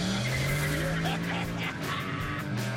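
A loud, steady engine drone with a low tone rising gradually, overlaid by harsh high-pitched tire squeal and scraping noise, continuous for a few seconds, from a Shelby GTSC modern Mustang with a 5-liter engine on a race track.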